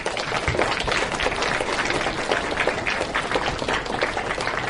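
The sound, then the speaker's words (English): A crowd applauds the readers from Bromsberg School, many hands clapping in a dense, continuous patter that stays loud and even for the whole stretch with no voices over it. “Big round of applause for those people.”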